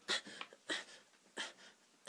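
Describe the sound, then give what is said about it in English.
A man grunts and growls in short, rough, breathy bursts, about four of them spaced evenly apart, close and fairly loud, with no words spoken. “Will you stop grunting and growling at me?”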